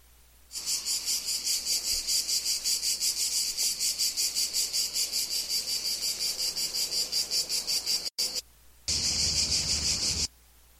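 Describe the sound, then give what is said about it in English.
A dense chorus of many cicadas buzzing loudly and continuously with a fast pulsing rhythm, briefly cutting out near the end before resuming at full intensity; no voices. “So this is lots of cicadas.”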